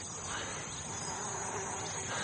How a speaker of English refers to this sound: It's bees, sir.